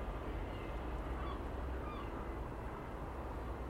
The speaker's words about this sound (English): And I can hear seagulls, but I can't see them. Very grey. Funny thing is, your seagulls immediately transported to the seaside.